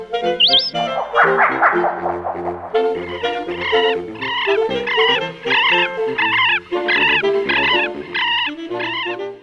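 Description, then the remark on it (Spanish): A moustached turca calls loudly, a rapid series of hollow, gobbling notes repeated in quick bursts over a steady rhythm, with a brief whistled note at the start. “La turca. Este pajarito es el pariente nortino del sureño chucao, ya que se le encuentra habitando desde Atacama hasta Concepción.”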